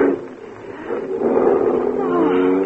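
A car engine runs with a steady, droning rumble that swells slightly louder partway through and holds there, continuous for a few seconds, as the car is driven off a barge after a short crossing.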